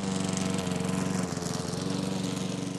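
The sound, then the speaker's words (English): A lawn mower engine drones steadily and loudly while mowing a family lawn as a weekend chore. Its low buzzing hum holds constant with a rough, rattling texture and no pauses. “Once I was old enough to operate machinery, I took over the weekend chore of mowing our lawn, front and back, from my dad.”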